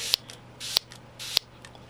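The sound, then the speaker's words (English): Three quick spritzes from a throat spray pump, evenly spaced, each a sharp click with a short airy hiss, over a faint low hum, with no talking. “I'm going to engage in some more throat spray here.”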